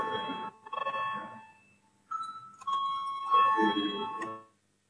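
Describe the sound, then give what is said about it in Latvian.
An electronic parliament voting call bell chimes in repeated bursts, bright and ringing, pausing briefly before a sustained tone and further ringing chimes, fairly loud with no voices. “Lūdzu, zvanu balsosim par 22. Deputātas Sprūdes priekšlikumu.”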